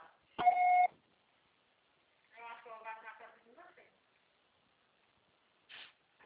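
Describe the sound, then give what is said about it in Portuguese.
A single loud, steady electronic answering-machine beep lasting about half a second, followed after a pause by someone speaking briefly, then a short burst of noise. “Tudo que você faz será tarifado após o sinal.”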